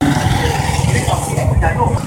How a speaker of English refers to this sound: That is noise of people as they go about their daily activities in River Oli division of Arua municipality. This area is one of the places hosting South Sudanese refugees in big numbers.